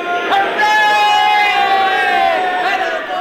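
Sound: large crowd cheering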